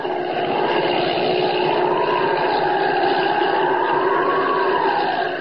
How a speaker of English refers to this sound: Up, up! Great Scott, it is Holbein's plane. I remember the number on it.